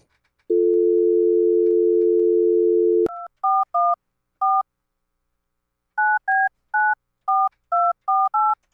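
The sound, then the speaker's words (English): A steady phone dial tone hums for a few seconds, then a string of short keypad dialing beeps follows, about a dozen touch-tones in two quick bursts, clear with no talking, as a cell phone number is dialed. “my mom on the phone for a quick little thing here before we go”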